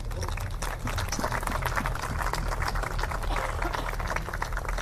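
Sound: audience applause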